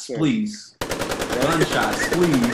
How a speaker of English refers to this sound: Gunshots, please.